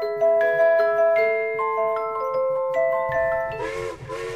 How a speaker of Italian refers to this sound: Senti, il treno corre verso il tuo paesetto.